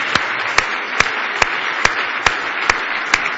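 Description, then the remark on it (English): An audience at an evening service gives Jesus a hand clap of praise: a steady wash of hand clapping, with a sharp, louder clap landing in a regular beat about twice a second through the whole stretch. No one speaks. “Now give Jesus one more big hand clap of praise.”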